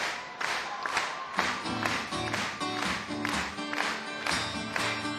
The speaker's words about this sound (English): First of all, do it again, come on. Let's hear it, clap your hands, come on. Oh, it sounds like jackboots.